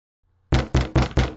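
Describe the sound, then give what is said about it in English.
Five loud, rapid knocks on a library door in quick, even succession, forceful, after a brief near-silent moment; no voices. “A resounding, insistent knocking pierced the library quietude, jolting Amir and Ethan from the disconcerting revelation.”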